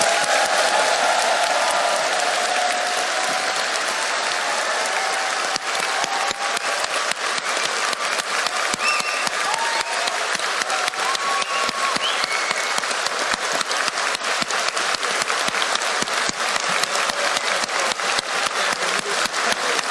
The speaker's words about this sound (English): Can we please have one final round of applause for absolutely everyone involved?